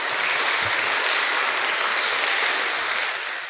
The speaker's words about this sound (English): So now you guys need to earn that applause.